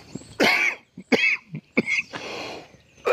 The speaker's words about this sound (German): Entschuldigung, ich bin total verschluckt. Ach, Hilfe.